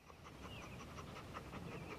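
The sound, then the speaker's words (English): An Alsatian dog pants steadily, quick rhythmic breaths repeating through the whole moment with no voices present. “Hearing panting, she turns to see the Alsatian dog.”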